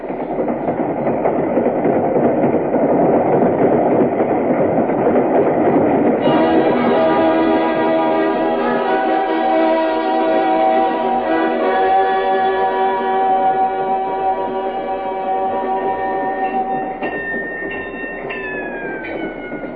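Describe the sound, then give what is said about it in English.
A train rolls loudly along the rails at night across Virginia with a steady rumble. After a few seconds, sustained metallic wheel squeals ring out over the noise, and no one speaks. “That I first felt it, saw it, knew the dark, illimitable madness of its power one night on a train across Virginia.”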